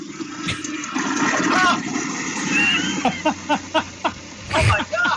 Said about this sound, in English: Oh, my God. Did it flush? It's out of here. Oh, wow. I would think a penny would be heavy enough to, like, and not, you know what I mean? Like, just heavy enough to go down.